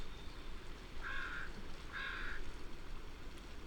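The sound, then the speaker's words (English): Two harsh, raspy caws about a second apart from three northwestern crows ring out over a steady rush of wind blowing in thickets and a small stream, near the mouth of Johns Hopkins Inlet in open shrub habitat. “Northwestern crows. There's three of them.”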